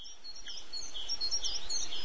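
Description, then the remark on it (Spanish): Several birds chirp and twitter continuously in quick, overlapping high calls in a tree across the way, heard through an opened window at 8 in the morning on a sunny day, over a soft outdoor background, with no one talking. “Abro la ventana y oigo el piar de los pájaros en el árbol de enfrente.”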